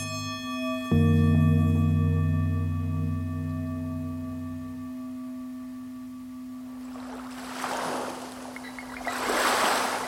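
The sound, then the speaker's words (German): Waves lap against the shore of Lake Constance on a sunny, cold February morning, in two or three soft, washing swells near the end, following a steady, droning hum that fills the first several seconds. No one speaks. “Ich torkle am Ufer des Bodensees entlang. Ein sonniger, kalter Februarmorgen. Enten lassen sich von den Wellen schaukeln.”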